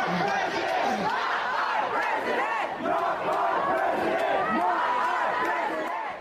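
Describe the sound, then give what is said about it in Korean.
A large crowd of protesters in California chants "Not my president" in unison, opposing president-elect Donald Trump and calling for California to leave the United States; a loud, continuous wall of many voices with a rhythmic, rising and falling cadence that holds steady throughout. “나의 대통령이 아니다라는 구호를 외치면서 트럼프 당선인에 반대하고 캘리포니아주 연방 탈퇴를 외치는 시위대 목소리 들어보셨는데요.”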